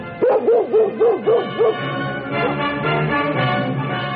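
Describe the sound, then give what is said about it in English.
A dog, Tippy the Wonder Dog of a radio adventure story, barks six times in a quick, even rhythm, loud, then falls quiet as a sustained background tone carries on. “Mushies, the great new cereal that gets soggy even without milk or cream, brings you another exciting story of adventure starring Tippy the Wonder Dog.”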